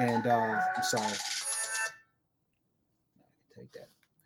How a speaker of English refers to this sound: Let me turn my phone down, my G. Hold on 1 second, because people are probably seeing me live and are starting to call my phone now, which is not cool.